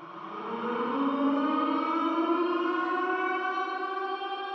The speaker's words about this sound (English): So the first half, they're in their costumes and they're dancing. And then a tornado siren goes off.